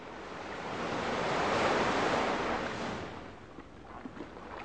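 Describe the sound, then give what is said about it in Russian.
A wave breaks on the shore in a broad, hissing surge that swells and then recedes, followed by softer foamy wash and faint trickling as the water draws back. “Вот оно море.”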